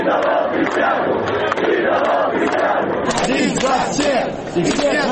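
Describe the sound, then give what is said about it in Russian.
A large crowd chants and shouts continuously at the Sunday march for a peaceful Belarus, a mass peaceful opposition protest, many voices blending into a loud, dense roar with rhythmic rising and falling calls throughout. “Эта акция стала самым массовым мирным протестом оппозиции за последние 3 недели.”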